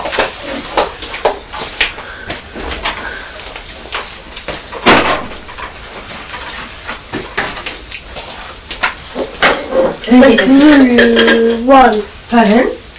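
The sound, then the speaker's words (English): A fridge door is pulled open with a series of clicks, thumps and rattling, followed by a voice talking over faint shuffling near the end. “I opened the fridge again.”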